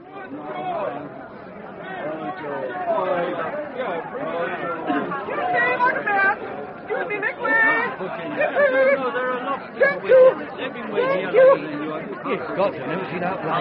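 A dense, steady hubbub of a crowd of a couple of thousand people talking over one another, with no single speaker standing out. The babble stays fairly loud and constant throughout.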